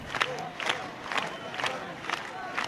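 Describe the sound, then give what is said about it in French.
A crowd applauds and cheers as a street march of protesters passes through the maze of lanes in Noailles, Marseille, with bursts of clapping and raised voices rising every half second or so over a steady murmur of many people. “Le cortège est applaudi lors de son passage dans le dédale de Ruelle de Noailles.”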